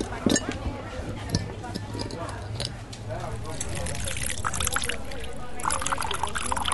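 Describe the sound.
Water pours from a bottle in a steady trickling stream, splashing over a radish from a bunch being rinsed, with faint clinks and a voice murmuring in the background.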